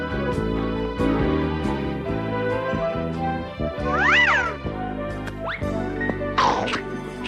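A cat meows a few times, drawn-out rising and falling cries that stand out clearly over a steady musical backdrop, with one long meow in the middle and another near the end.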